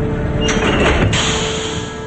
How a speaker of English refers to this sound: He flips a switch and steel locks engage on the heavy door. They look around. What was that noise?